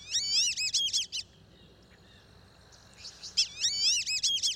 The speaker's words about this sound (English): They're called black-bellied whistling ducks, and they're widespread in Central and South America.